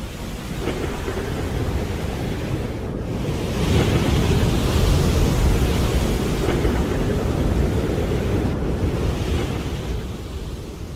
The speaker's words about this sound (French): Mais concrètement, ma vie était chaque jour suspendue à un fil, en particulier à cause des vagues déferlantes, car je ne savais pas nager. Ces vagues sont extrêmement violentes dans cette partie de l'Atlantique